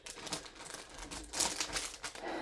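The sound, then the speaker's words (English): Stiff canvas posters that came rolled in a tube crinkle and crackle as they are pressed flat, a steady run of dry rustling with sharper snaps near the middle and no voices. “but I'm flattening them out right now because they all came rolled in a little tube.”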